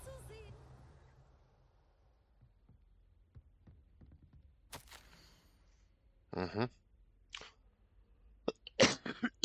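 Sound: cough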